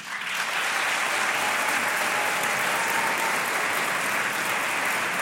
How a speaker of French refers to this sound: On va voter pour ou contre mettre des patins pour faire de la rando en nature. Alors par applaudissement, qui est pour ?